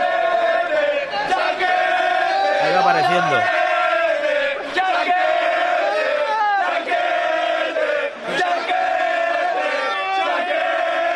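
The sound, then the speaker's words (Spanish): A large crowd cheers and chants loudly and without pause at the arrival of an Asian man in Málaga, many voices roaring together with rising and falling shouts, while a man speaks briefly over the din. “Vamos a escuchar al momento en el que llega el asiático,”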